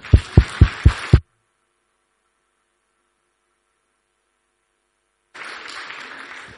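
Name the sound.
audience applause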